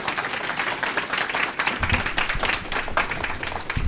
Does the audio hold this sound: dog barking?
no